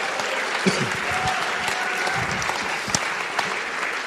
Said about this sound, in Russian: Скажи аминь. Подари Богу аплодисменты.